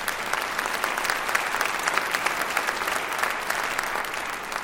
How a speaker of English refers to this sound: Yeah, let's clap.